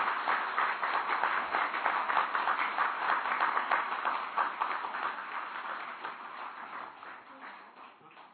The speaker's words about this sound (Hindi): तो एक बार सब ऐसे जोर से ताली बजाओ जो बस।